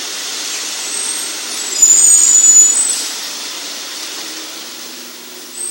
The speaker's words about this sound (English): As the fire engine passes.